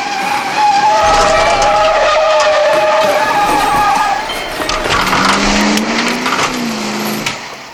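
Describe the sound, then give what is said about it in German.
A car driven by people trying to run others over roars by with tires squealing in long, wavering high-pitched skids, then a lower engine whine rises and falls as it speeds off. Loud and continuous, no talking. “Oh nein, sie wollen uns überfahren.”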